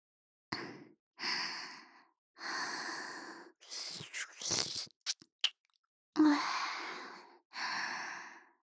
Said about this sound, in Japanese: 私の吐息、耳にかかるの気持ちいいんでしょ。もっと吹きかけて、頭の中トロトロにしてあげる。